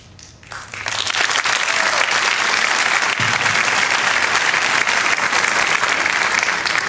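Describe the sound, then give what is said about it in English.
Sustained applause from a large audience for a rabbi saying people should condemn Nazis, starting after a brief quiet moment and swelling quickly into a steady, loud wash of clapping that continues without pause to the end. “I appreciate the fact that you applaud.”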